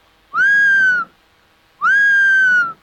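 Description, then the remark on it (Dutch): Two clear, drawn-out whistling calls of a herring gull, each lasting under a second with a short pause between, steady in pitch and fairly loud, with no talking. “En dat zijn dus dat mooie fluiten, dat doen de zilvermeeuwen en de jongen die doen kwak, kwak, kwak.”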